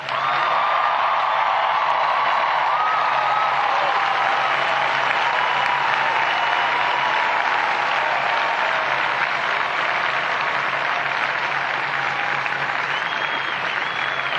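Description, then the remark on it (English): Sustained applause from a large audience, a dense, steady wash of clapping that stays loud for the whole stretch, with a few whoops and cheers rising through it. “Only you in blue over there, clap all of the people who made it possible for you to be there today.”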